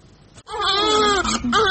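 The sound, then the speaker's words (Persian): A baby cries loudly in a long, wavering wail, briefly catches its breath, then starts a second high-pitched cry. No one else can be heard. “این روزها در ایران چنین صداهایی کمتر به گوش میرسد، گریه هایی که مسئولان حاضرند برای بیشتر شدنش در کشور تسهیلات هم بدهند.”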